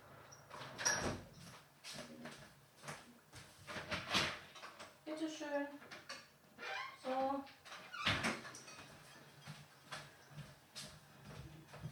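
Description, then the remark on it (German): A door slides and bumps open to let a dog in, with scraping and squeaky creaks, followed by the dog's brief whines and a soft thud, all mixed with light movement noise. “Ja, so eine wichtige Aufgabe wie das Öffnen von Türen, das darf man nicht vernachlässigen, auch nicht, wenn man einen Podcast aufnimmt.”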